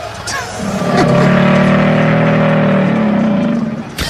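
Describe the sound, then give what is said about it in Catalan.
A real crocodile growls in one deep, steady rumble that swells in and holds for about three seconds before fading. It is loud, with an engine-like drone and no voices. “Mira, espera, que en Jové ens ha buscat el so real d'un cocodril.”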